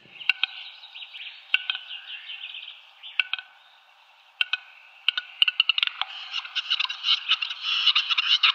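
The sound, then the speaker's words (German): An endangered large grouse's courtship display: dry clicks and pops that speed up into a dense, rasping hiss, with some twittering chirps mixed in. No one speaks. “Ein mächtiger Hühnervogel, wirklich sehr, sehr hübsch, leider vom Aussterben bedroht, mit einer spektakulären Balz, mit so lustigen, zischenden Geräuschen”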